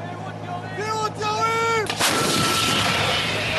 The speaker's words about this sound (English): They yelled warning, firing before the gun belted fire and smoke and sent the explosive hurtling toward a target in the Gaza Strip.